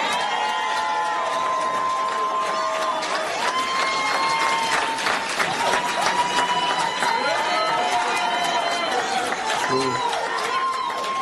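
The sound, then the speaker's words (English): A large crowd at a Donald Trump speech chants "four more years" in loud, rhythmic unison, the voices blending into a steady roar with shouts and cheers rising over the chant throughout. “4 more years, they're screaming.”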